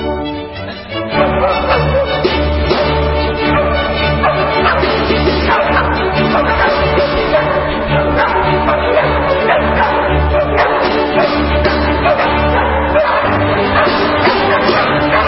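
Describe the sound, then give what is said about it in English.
The Danish Chamber Orchestra plays a lively, dense piece, the Hunting Symphony by Leopold Mozart, while three dogs bark and yip repeatedly through it, the barks blending into the music at steady volume. “You hear there is the Danish Chamber Orchestra, accompanied by three dogs, for their recent performance of the Hunting Symphony by Wolfgang Amadeus Mozart's father, Leopold.”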